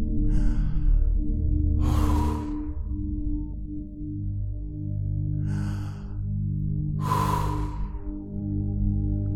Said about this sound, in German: Und atmen tief durch.